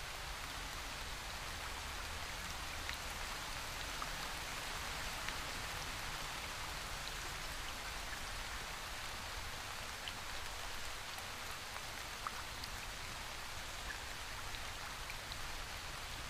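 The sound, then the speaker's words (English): A cascading waterfall running down a marble rock slope splashes energetically into a pool, sending a fine mist into the air: a steady, dense wash of splashing water with a bright hiss, continuous and even throughout with scattered droplet-like ticks on top. No voices. “Splashing energetically and sending a fine mist into the air.”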